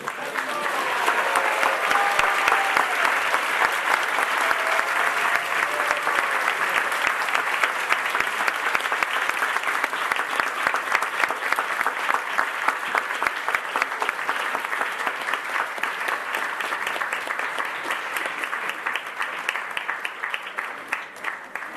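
A crowd at a flower festival bursts into sustained, enthusiastic applause, dense overlapping claps holding steady for about twenty seconds before thinning slightly toward the end, with faint voices mixed in at the start.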